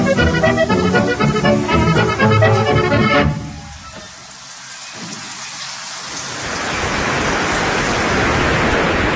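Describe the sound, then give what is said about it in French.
Rain drums steadily on the glass roof of the central pavilion of the Familistère, resonating a little, a dense, even hiss that fades briefly, then swells louder and holds. Before it comes a short stretch of tonal, musical sound that cuts off abruptly. “Là, ça résonne un peu parce qu'on se trouve donc dans le pavillon central et là on entend la pluie qui tombe en fait sur la verrière.”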